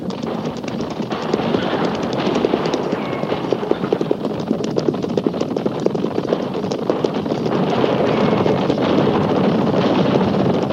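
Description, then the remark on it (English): A steady, dense drumming of hooves from several horses galloping at speed, the rapid thuds blending into a continuous rumble with wind-like rushing noise underneath, holding loud throughout. “At the gallop!”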